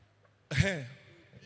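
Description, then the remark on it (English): A man sneezes once, loudly, after a near-silent moment, a sharp noisy blast with a voiced edge that trails off over about a second. “God bless you, sir.”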